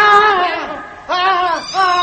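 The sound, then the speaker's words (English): A female cat screeches in two long, harsh yowls as she attacks a custodian working at a door, the second starting after a brief dip, with a third cry rising at the end. Loud, with no talking. “The cat launched herself, not at Malcolm, but at the luckless custodian.”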